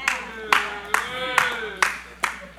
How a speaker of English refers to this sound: Yeah. Amen. I take that one clap. At least I got a clap today.